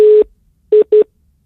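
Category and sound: signal or alarm, telephone busy tone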